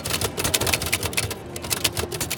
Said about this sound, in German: Allein schon dieses Geräusch einer alten Schreibmaschine macht viele Passanten neugierig.